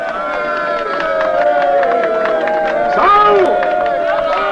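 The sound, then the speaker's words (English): A crowd in a hall applauds steadily for the third-place contestant of a six-day race, with dense overlapping clapping under loud cheering voices that swell briefly near the end before settling back into sustained applause. “And I would ask for a special round of applause for our number three,”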